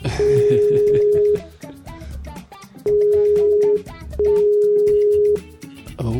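An outgoing call's ringing tone: a steady, clear tone in long bursts, one, then a pause, then two more close together, heard over a busy, murmuring background.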